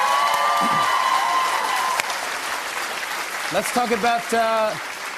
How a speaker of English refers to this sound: Let's just start. Can we do applause and I'll just go from the applause and go into it?